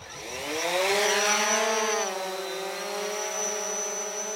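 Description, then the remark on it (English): A police drone's rotors whine steadily in a dense harmonic buzz, pitch rising slightly then settling into an even hover tone, as a Nampa police officer slowly hovers it toward a crow roost at night to startle the crows away. No voices. “But tonight there's another trick to try. A drone.”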